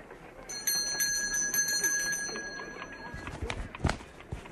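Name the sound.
doorbell ringing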